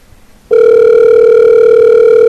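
After a short moment of quiet, a steady mid-pitched electronic ring tone starts abruptly and holds at an even, fairly loud level: an outgoing phone call ringing unanswered at midnight. No one speaks.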